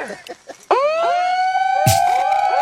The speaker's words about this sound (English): I love it. I love the multi-sirens. We're turning their tools of oppression right back on them. It's our own sound cannon. The people's sound cannon is going off right now in Chantilly.